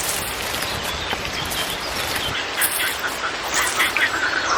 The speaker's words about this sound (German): Oh Mann, was ist denn das für ein Lärm? Wieso müssen Krötenmänner immer so einen Krach machen? Die wollen wohl meine Aufmerksamkeit